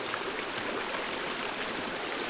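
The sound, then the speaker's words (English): Steady rushing water flows without pause, a broad, hissing wash of sound like a running stream, constant in level with no voices. “Allow the sound of the water to rush through your lungs.”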